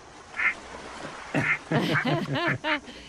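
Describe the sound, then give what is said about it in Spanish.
Ducks quacking at the Laguna de los Patos, a lagoon in a recreational park: two short, isolated quacks, then a quick run of five or six raspy, nasal quacks in a rough rhythm, over faint outdoor background noise. “A ver, me llevas a ver patos, ¿sí?”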